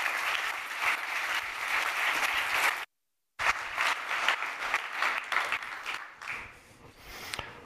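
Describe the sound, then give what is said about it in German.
An audience applauds steadily to welcome speaker Sepp Hochreiter to a talk on whether AI from Linz can save Europe as a business location: a dense wash of clapping that breaks off briefly, resumes just as strongly, then thins out and fades toward the end. “Begrüßen Sie mit einem großen Applaus Sepp Hochreiter.”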